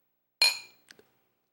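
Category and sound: household object, glasses clinking together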